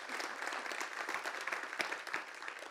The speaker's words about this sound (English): 600 articles of clothing that we get to give away to those in need. You can clap about that, church. Praise God.